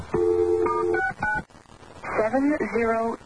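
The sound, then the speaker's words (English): Telephone keypad tones beep out in a quick run of short, steady, clear electronic notes as a phone number is dialed to call someone back. A brief pause follows, then a warbling, voice-like tone with sliding pitch. “Why don't you give me your phone number and I'll call you back?”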